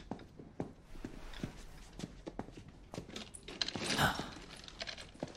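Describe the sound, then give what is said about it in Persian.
Footsteps walk steadily across a hard floor at a moderate pace as someone walks into a room, with a brief metallic jingle partway through and faint room noise in the background. “حالا میخوام با ابهت وارد اتاق بشی. من که مشکلی با راه رفتن ندارم.”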